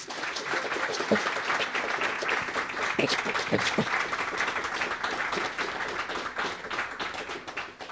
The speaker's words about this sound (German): Ja, danke für den Vorschussapplaus. Danke, dass Sie hergekommen sind, um bei der Produktion dieser Folge dabei zu sein.